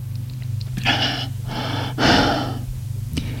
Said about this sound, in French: Je sers un verre d'eau du robinet. Mets les comprimés dans sa main et avale une gorgée d'eau.